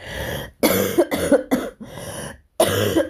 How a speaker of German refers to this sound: Entschuldigt, dass ich ab und zu husten muss, aber das bleibt leider jetzt nicht aus. Ist also alles wirklich live und in Farbe und mit Nebengeräuschen.